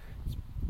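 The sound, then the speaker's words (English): A warm wind blowing, heard as a low, rumbling buffeting that swells and eases slightly over a brief moment, moderate in level, with no voices. “Oh, it's very windy now.”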